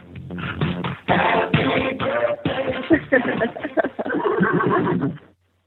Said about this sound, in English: There you go. A birthday song with a horse in it. What more could I wish for?